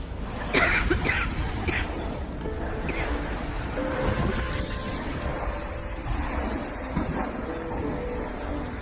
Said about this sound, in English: The water hitting my front room window, which is extremely high, and this is the water by my back door and glass. So this is what I'm facing at the moment.